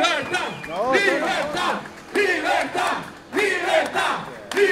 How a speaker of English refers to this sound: And since the wee hours of the morning, people have been gathering there, honking horns. They've been singing the national anthem, shouting political slogans, and just having a big celebration.